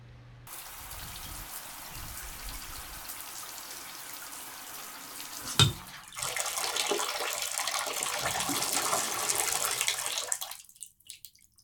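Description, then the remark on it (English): A shower runs with a steady hiss of spraying water, a brief knock midway, then a fuller rush before the water shuts off abruptly near the end. No one speaks. “Right, as soon as I hear your shower turn off, I'll come up to your room to help put cream on your back.”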